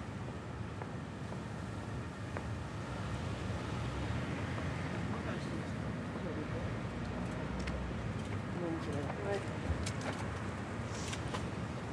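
Strong wind blows steadily outdoors, a constant loud roar and rumble buffeting the microphone for the whole stretch, with no break or change in intensity.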